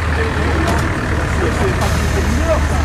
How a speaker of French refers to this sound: Oh, voilà bien le bus.